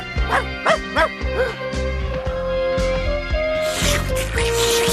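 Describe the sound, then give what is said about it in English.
The dog Odie gives four or five quick, loud barks in a rapid burst, then falls quiet as a steady tonal background hum with music-like layers continues. “It's a dog.”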